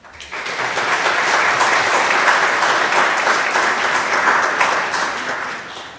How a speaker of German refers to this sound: Und ihr kriegt, glaube ich, nochmal einen Applaus.